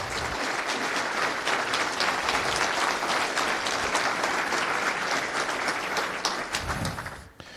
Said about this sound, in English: So they are not here, but they should be given some round of applause, because they're volunteers that are doing really the hard work and building up on one day the complete FOSDEM. So maybe it's time for a round of applause for them.